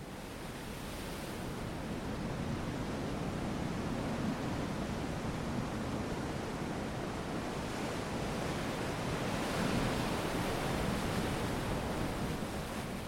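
Ocean surf washes onto the shore in a steady, broad rush, swelling gently a couple of times as waves break, with no voices, only the continuous roar of the sea.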